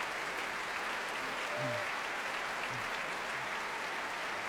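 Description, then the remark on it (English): Steady, dense applause from a large audience in the choir stalls at a Promenade concert, a continuous wash of clapping hands that holds at an even level throughout without any voices rising above it. “Warm applause from them.”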